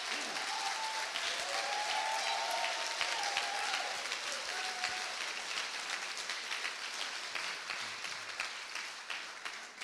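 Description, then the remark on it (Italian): A crowd applauds steadily for the full length, dense clapping at a sustained, loud level, with a few faint cheers or voices rising briefly early on; applause for the young members of a church praise group after worship. “Facciamo un applauso a questi ragazzi.”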